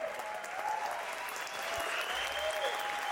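Steady applause from a group, dense continuous clapping that holds at an even, fairly loud level for about three seconds with no voices standing out.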